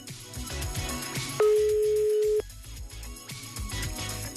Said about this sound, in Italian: Sta squillando, già è buon segno. Dobbiamo solo sperare, incrociare le dita che risponde.